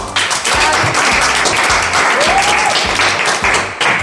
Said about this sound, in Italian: Allora, grazie, quindi fatevi un applauso.